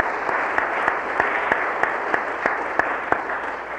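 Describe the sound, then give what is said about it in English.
An audience applauds a panel steadily, a dense wash of many hands clapping with a few sharper individual claps popping out at a brisk, fairly regular pace. No one speaks over it. “I think the panel deserves a nice round of applause for their demeanor.”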